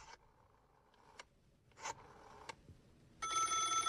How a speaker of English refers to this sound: Who's calling? Don't these people realize I'm trying to do a radio show? Who's calling my phone?